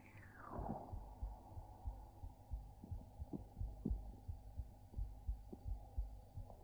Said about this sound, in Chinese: 睡不着了，那靠过来听一听妹妹的心跳，一会儿就睡着了好吗？